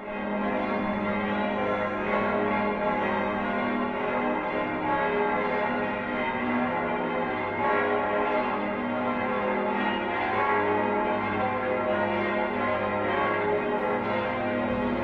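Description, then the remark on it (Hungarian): Several large bells of the Győr cathedral peal together for five minutes in memory of Pope Benedict XVI, a continuous, loud wash of overlapping ringing tones that sustains steadily for the whole stretch, with no voices present. “Öt percen keresztül zúgtak a székesegyház harangjai megemlékezve 16. Benedek pápáról.”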